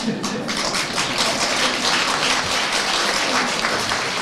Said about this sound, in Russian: Ну, вы обождите, не хлопайте.